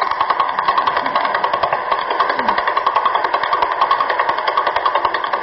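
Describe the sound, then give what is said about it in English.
Radio pulses from the Vela pulsar in the Vela supernova remnant, turned into sound: a rapid, steady buzzing throb from its 89-millisecond period, about eleven rotations per second, like a helicopter rotor, with slight swells in strength and no voices. “It's also in a supernova remnant called the Vela supernova remnant, so we call this one the Vela pulsar. Its period is 89 milliseconds.”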